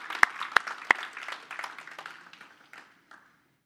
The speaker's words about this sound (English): That's amazing. One more clap.